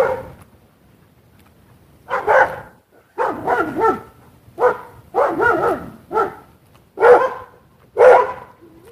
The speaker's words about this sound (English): That's the dogs.